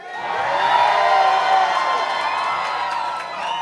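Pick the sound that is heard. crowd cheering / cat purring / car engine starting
crowd cheering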